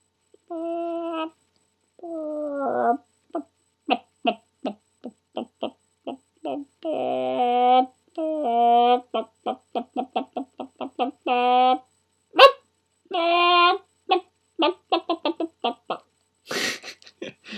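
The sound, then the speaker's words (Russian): A human voice imitates a chicken, with a long run of short, clucking bursts in an uneven rhythm, some stretched into squawks. It is fairly loud, with no other talk. “Но у меня достаточно неплохо получается курица.”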